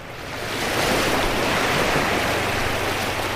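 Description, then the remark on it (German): Steady roar of sea waves breaking on a shore of the Breton coast in France, a broad continuous wash swelling in during the first half second and holding loud, with no voices. “Das Meer und das Schlürfen einer Auster.”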